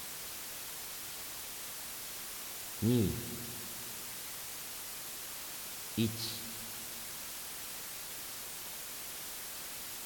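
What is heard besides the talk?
white noise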